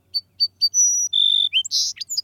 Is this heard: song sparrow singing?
yes